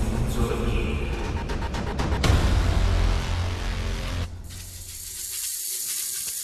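Cobra Khan, a giant snake lord in a radio play, hisses and sprays corrosive venom toward a microphone: a loud, harsh, continuous hiss with a forceful spraying burst partway through, then dropping to a softer, steady hiss. No voices are heard.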